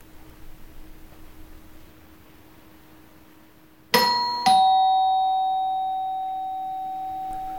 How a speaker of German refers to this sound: Und dann klingelt es.